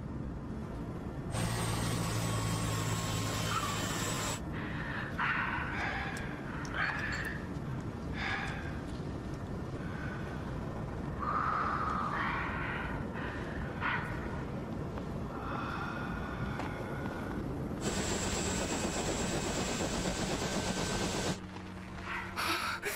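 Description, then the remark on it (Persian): A helicopter's engine and rotor roar loudly and steadily as it comes down to land, a dense continuous wash of noise with faint whining tones drifting through it. “باید بمبو جایی بذاریم که در معرض باد ملخ بالگرد نباشه.”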